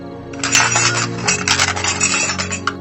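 A metal utensil clatters to the floor in a bright, jangling crash, its ringing tones lingering beneath a scatter of rattling clinks for a few seconds, with no voices.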